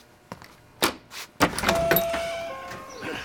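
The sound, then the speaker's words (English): A few sharp mechanical clicks and a thunk as a locked door is unlocked, then the door swings open with a faint rising squeak and rustling movement, with no voices. “Why is the door locked”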